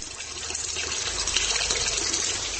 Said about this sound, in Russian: Такое ощущение, что со времен Пушкина здесь ничего не поменялось. Такие же куполообразные потолки, большой бассейн с горячей серной водой.